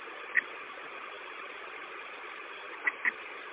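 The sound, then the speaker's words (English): A bus engine idles with a steady, even rumbling drone, slightly muffled and thin, with a few faint clicks scattered over it and no one speaking; the bus has not been running long enough to fill its air tanks. “The bus hasn't been running long enough to fill all the air tanks.”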